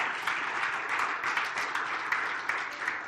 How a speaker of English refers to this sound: Come on now, let's clap our hands to God.